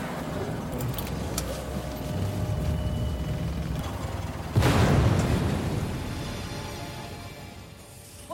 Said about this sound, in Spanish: La oficina del doctor estaba lo suficientemente cerca para poder ver el humo de la explosión desde la ventana. Mira eso.